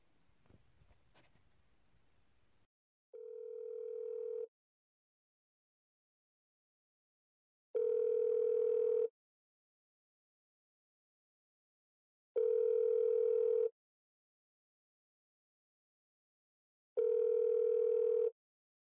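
A phone ringback tone sounds four times as a woman places a call, steady tonal bursts about a second long separated by roughly three-second silences, preceded by faint handling noise and a brief click.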